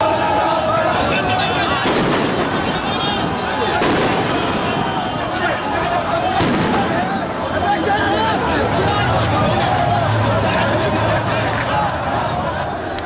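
A loud, dense crowd of protesters in Iraq roars and shouts continuously while sharp gunshot bangs crack out every few seconds, some heavy, others scattered, as Iraqi security forces fire bullets and tear gas to disperse the protesters on a Friday morning.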